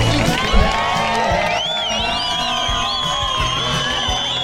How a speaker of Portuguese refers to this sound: Palmas então para a banda do Uambo.